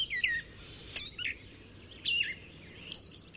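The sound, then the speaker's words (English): A gray catbird sings a jumbled run of short, varied phrases: squeaky, high-pitched chirps and slurred notes in quick bursts separated by brief pauses, over a faint low background rumble. “Female and male gray catbirds both have a dark cap on their heads and a rusty brown patch under their long tails.”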